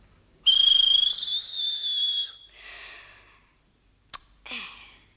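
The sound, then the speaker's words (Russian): A toy whistle gives one long, shrill, steady blast, followed by a couple of shorter, breathier toots and a sharp click, with no one talking. “А главное, он боялся признаться маме, что променял карасика на свисток.”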